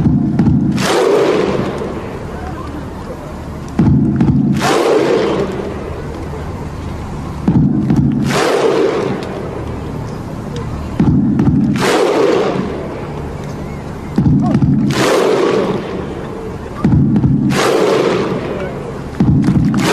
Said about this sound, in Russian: Это исландцы. Я не знаю, сколько здесь тысяч на этой площади. Да, они стоят на площади, хлопают под барабан. Огромное количество людей.